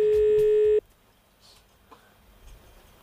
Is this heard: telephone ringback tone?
yes